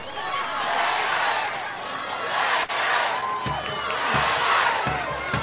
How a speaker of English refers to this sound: You hear the Raider chant across the way.